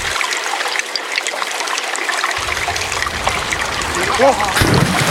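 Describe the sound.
Continuous water trickling and bubbling, a soft steady babble with small splashes, moderately loud, with a faint voice-like warble near the end.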